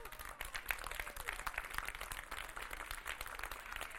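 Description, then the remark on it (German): An audience applauds steadily at an author's book event in Hall 2, a dense wash of many hands clapping at an even, fairly loud level for the whole stretch, with no voices standing out. “Applaus.”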